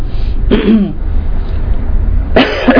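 Two fairly loud coughs from one person, the first just after the start and the second near the end, separated by a pause with low background rumble.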